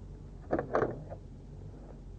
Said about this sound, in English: Yes. That's the door.